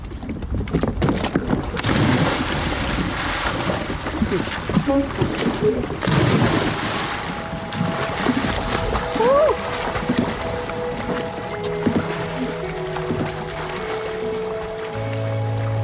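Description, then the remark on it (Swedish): A person does a cannonball jump into a lake in Sweden in summer, the heavy body bursting loudly into the water and then churning and sloshing for several seconds, with faint voices and a low steady hum toward the end. “Nej, men kanonkulan är samma sak. Så ska jag göra.”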